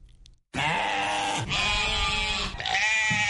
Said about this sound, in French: À Dakar, les points de vente de moutons ne désemplissent pas. À quelques jours de la fête de Tabaski, les chefs de famille se débrouillent comme ils peuvent pour trouver un mouton à la hauteur de leurs ambitions.